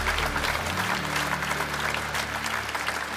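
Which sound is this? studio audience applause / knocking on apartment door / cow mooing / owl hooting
studio audience applause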